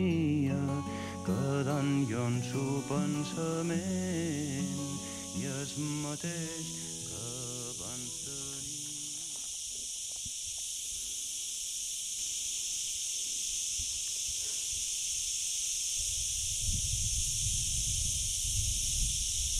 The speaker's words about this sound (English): The cicadas are buzzing merrily. A day in midsummer on Ibiza has definitely begun. And here in this little clearing in the woods, I've got the cicadas on surround sound.